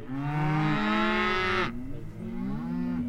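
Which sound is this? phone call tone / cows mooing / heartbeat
cows mooing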